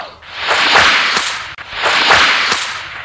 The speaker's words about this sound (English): You can read along with me in your book. You will know it is time to turn the page when you hear the bullwhip crack like this.